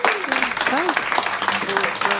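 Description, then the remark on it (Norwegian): An audience applauds director Iram Haq, whose film What Will People Say is the centerpiece of the Bergen International Film Festival: a dense wash of many hands clapping at an even loudness for a couple of seconds, with a few voices calling out over it. “Gi en varm applaus til regissør Iram Haq.”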